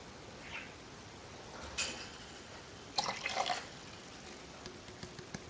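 Water, slightly warmer than 20 degrees, is poured into a measuring container to make 570 milliliters, in two short, splashy bursts, the second slightly longer, with a few soft drips after. Fairly quiet, with no talking.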